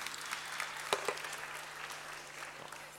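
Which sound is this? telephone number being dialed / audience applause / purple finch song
audience applause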